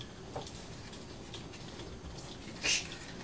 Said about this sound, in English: Gosh, look at the rain outside. That must be a cloudburst. Gosh. Look at it, the patio is almost flooded.